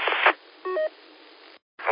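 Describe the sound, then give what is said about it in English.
A weak radio transmission into an amateur radio repeater, breaking up in thin, hissy static, with a brief crackly burst, a short pair of tones, then a sudden dropout to silence before the static returns. “That last station calling, you are barely getting into the repeater. A lot of static on your side.”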